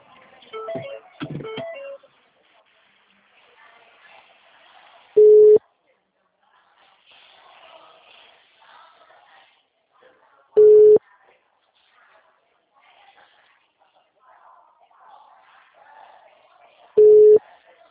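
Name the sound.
telephone call tone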